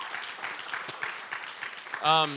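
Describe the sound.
A crowd claps steadily for a speaker being called up, a dense, even crackle of applause, and near the end a single voice lets out a loud, sustained whoop of a cheer over the clapping.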